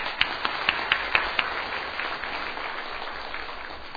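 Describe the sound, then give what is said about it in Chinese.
A crowd applauds to welcome four guests, starting with a few sharp, distinct claps that quickly merge into a steady wash of clapping, fading slightly toward the end. Nobody speaks. “我们鼓掌欢迎这四位朋友。”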